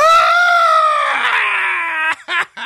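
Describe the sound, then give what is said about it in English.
A person imitates the shrill scream of someone throwing punches in a fight: one loud, drawn-out yell that slowly drops in pitch, then breaks into two short, choppy bursts at the end. “And he's just like, as soon as he started fighting, he would be that dude that just screams when he punches.”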